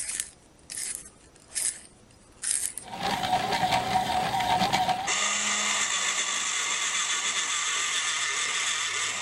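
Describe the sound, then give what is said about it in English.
Pencil sharpeners at work: four quick, rasping bursts of cranking, then a denser stretch of steady grinding, then a sustained high-pitched mechanical whir that runs to the end. No one speaks. “No, all of those were pencil sharpeners.”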